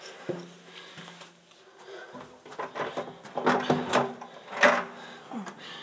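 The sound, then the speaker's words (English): Mechanical clicks and rattles as a new door handle on a basement door is jiggled and turned to open it, with a few louder clunks and scrapes toward the end. “My dad put a new door handle on this basement door, and I always forget which way it opens.”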